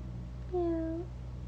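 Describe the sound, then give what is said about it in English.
A single short, drawn-out meow sung by a young child's voice imitating a cat, over a low steady background hum. “You imitating meow?”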